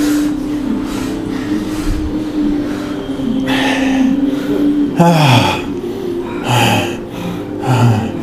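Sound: deep breathing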